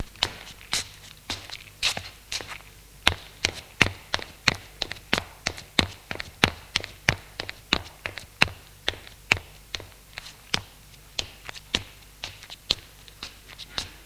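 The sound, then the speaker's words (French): Footsteps of a grandmother guiding others up the stairs to the upper floor: a long series of sharp, steady thuds and taps, some doubled or uneven as several people tread together, continuing throughout with no talking. “Et la grand-mère qui les guide, ils montent à l'étage.”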